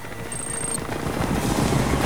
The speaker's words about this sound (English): Thompson tries but fails to lock onto Solo's chopper.